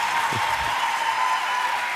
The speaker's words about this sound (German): Es ist dein Applaus, …, Alter.